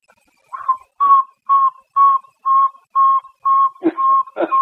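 A small owl, about as big as a hand, gives a steady series of about nine mid-pitched whistled toots, evenly spaced roughly twice a second, like a truck's reversing beeper; a couple of brief rustling bursts join the final notes.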